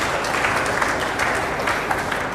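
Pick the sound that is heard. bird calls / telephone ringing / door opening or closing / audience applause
audience applause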